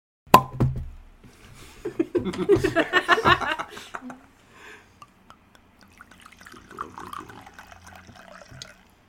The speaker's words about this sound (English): Not everybody's here, but let's pour the wine.